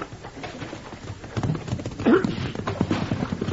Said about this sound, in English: All right, Muley, let's get to the horses and ride. Yeah, let's get on.